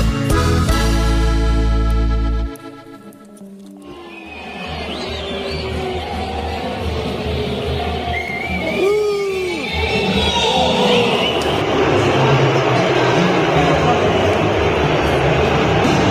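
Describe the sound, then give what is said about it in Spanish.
A brief loud tonal blast opens, then a huge stadium crowd at Estadio Azteca in Mexico, at an NFL game, roars with sustained booing of a music group, pierced by shrill rising and falling whistles that continue steadily to the end. “Bueno, ahí están oyendo la rechifla y los bus en el Estadio Azteca, que créanme que es impactante escenario para recibir una bucheada.”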